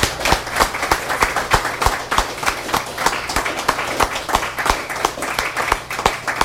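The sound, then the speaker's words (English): An audience at a reading series event applauds steadily, many hands clapping in a dense, irregular patter with sharp individual claps standing out, holding at an even, moderate loudness throughout. “Before I do this, you, all of you and all the people that even left are the ones that make this the wonderful reading series that it is, so give yourselves and everybody else another hand.”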